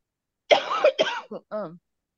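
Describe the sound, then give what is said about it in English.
A few harsh coughs burst out in quick succession, followed by a short voiced throat-clearing sound, all loud with no talking. “I think, excuse me, I have a cough.”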